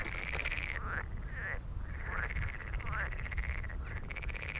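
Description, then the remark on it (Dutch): Frogs croaking in rapid, buzzing pulsed trills that repeat every second or so, steady, over a constant low outdoor rumble with no voices. “Ik denk dan meteen een kikker, maar ik weet er niet zoveel van.”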